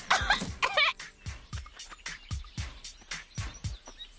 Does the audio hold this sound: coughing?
yes